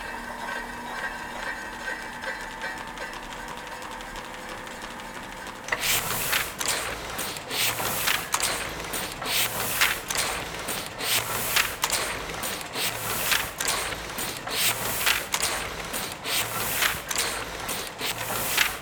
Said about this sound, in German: Und dann ist da noch diese Maschine, ein Heidelberger Tiegel aus dem Jahr 1936.